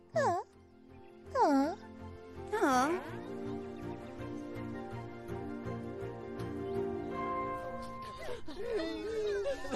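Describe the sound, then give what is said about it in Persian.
Three short, wavering wails of crying come in quick succession near the start, followed by a steady tonal hum, then more faint whimpering sobs toward the end. “بیخیال، لطفاً گریه نکنید.”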